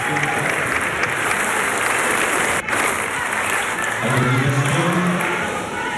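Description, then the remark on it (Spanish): A large hall, the Salón de Honor, full of people bursts into sustained applause after a person in the gallery shouts '¡viva Chile!'. Dense steady clapping fills the room, with a faint murmur of voices rising beneath it toward the end. “Ahora sí, ¡viva Chile!, grita una persona en la grada, que es respondido por todo el Salón de Honor con un aplauso.”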